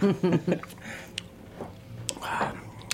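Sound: sipping beer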